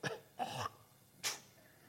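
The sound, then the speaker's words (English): A person imitates hacking up phlegm: two rough, throaty coughs in quick succession, then a sharper, hissy hawk a moment later, fairly loud with no talking. “The eye doctor does something over at his desk, coughs up.”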